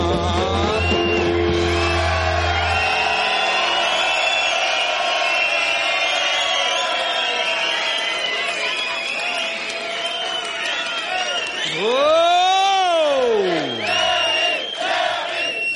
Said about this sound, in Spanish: Bien, se merece ese aplauso sonado que Jerry Lewis tenía ya como institución en cualquier sitio que iba.